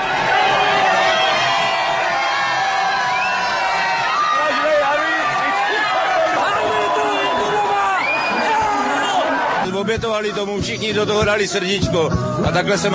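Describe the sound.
Thousands of hockey fans packing an Old Town square cheer and whoop continuously as the victorious team appears before them. A dense roar of voices with scattered shouts swells into louder, choppier bursts of yelling near the end.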